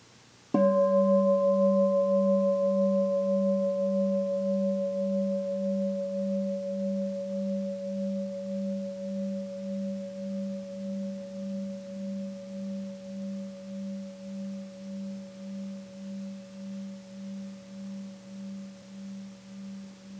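A single gong strike rings out with a deep, humming tone and bright overtones, its sound pulsing gently as it slowly fades over about twenty seconds.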